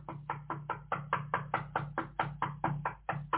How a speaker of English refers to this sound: Never mind the fact that there's a bell. No. Some things you gotta knock for.